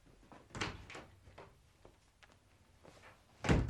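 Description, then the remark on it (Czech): A door opens and shuts, with a few muffled knocks and thuds of the handle and frame, ending in a firmer closing thump; no voices. “Jedeš za dveře? Provedu.”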